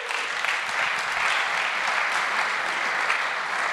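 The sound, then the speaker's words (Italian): Steady, dense audience applause from many hands welcoming a guest, a continuous crackling wash of claps holding an even loudness for a few seconds with no voices on top. “Ein Applaus.”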